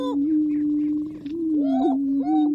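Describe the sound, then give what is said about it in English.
Male greater prairie chickens displaying at a lek in the Nebraska National Forest at dawn: a steady, low hollow booming drone runs throughout, overlaid by higher whooping, rising cackles and short chatter calls from several birds. “Leks are breeding grounds where certain species like these male greater prairie chickens perform display rituals and compete for the affections of females.”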